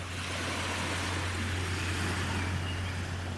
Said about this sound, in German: Und vielleicht hörst du im Hintergrund, wie schön hier die Wellen kommen und gehen.